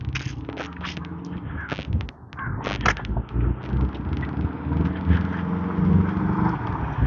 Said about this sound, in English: Volkswagen bus, I haven't seen one of those in a while.